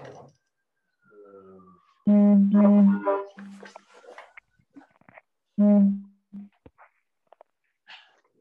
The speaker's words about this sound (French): Il y a un autobus qui klaxonne là, c'est quoi ce bruit?